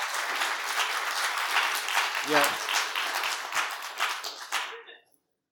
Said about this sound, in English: How cool that you clapped for them, you know.